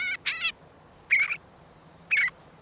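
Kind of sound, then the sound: bird, northern shrike song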